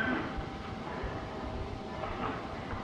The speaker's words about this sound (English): But you say, that train is really going fast.